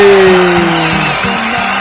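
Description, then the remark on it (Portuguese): A loud, dense round of applause lasting about two seconds, with steady clapping and sustained cheering voices riding on top of it, given for the winner of a giveaway promotion. “Uma salva de palmas pro vencedor.”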